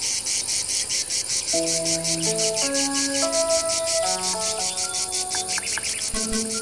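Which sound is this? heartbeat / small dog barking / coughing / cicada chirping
cicada chirping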